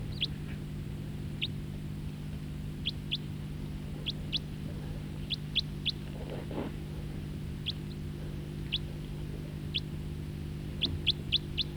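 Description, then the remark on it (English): A bird sings in short, high, thin chirps, scattered irregularly and sometimes bunched in quick runs of two or three, over a steady low droning hum. No one speaks. “I think this was the guy that was singing.”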